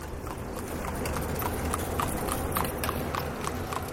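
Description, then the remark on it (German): Horse hooves clip-clop at a steady trotting rhythm as an Amish horse-drawn carriage passes between trucks and cars in a town in America, the sharp knocks repeating evenly over a constant low rumble of background noise. “Zwischen Lastwagen und Auto traben immer wieder Ross mit Kutschen vorbei, gesteuert von Männern mit Bart, weissen Hemden und braunen Hosen mit Hosenträger oder von Frauen in einfachen Röcken mit Hübli auf dem Kopf.”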